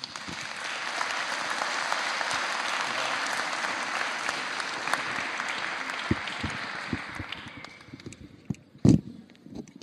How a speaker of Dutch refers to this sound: En een enorm applaus voor hun samen.